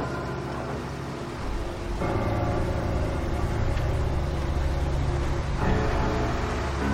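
A truck's heavy engine rumbles steadily, its low drone swelling louder as it drives into a warehouse, with no voices over it.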